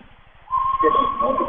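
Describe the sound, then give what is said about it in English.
A single sustained referee's whistle blast, about a second long and fairly loud, called as a player steps out of bounds in a Lady Bombers basketball game, cuts through a low background of crowd murmur. “As the whistle, she steps out of bounds.”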